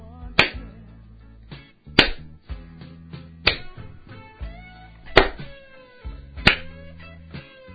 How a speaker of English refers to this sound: Yeah, how about the slow clap?